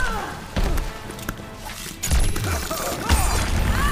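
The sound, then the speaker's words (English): Several sharp explosive bangs burst out one after another, with crackling, sparkling tails and deep booms layered beneath, like a flurry of fireworks going off as a video game's grand finale after an arrow is shot. “Time for the grand finale. Shoots an arrow? Fireworks!”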